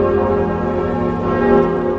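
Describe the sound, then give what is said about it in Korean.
The new bells of Notre-Dame cathedral in Paris ring loudly and continuously, their overlapping tones blending into a rich, sustained wash of resonant chimes with no voices present, made to sound in harmony with the original bell Emmanuel. “사람들은 새 종소리가 부드러운 가운데 힘이 있다는 반응을 보였습니다.”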